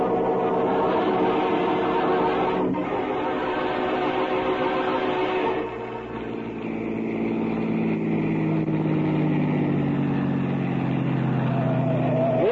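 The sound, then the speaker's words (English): A car engine drones steadily as the car drives to an old house, then shifts and climbs in pitch as it accelerates, loud with no voices. “I got my car outside so we can get there ahead of Parker.”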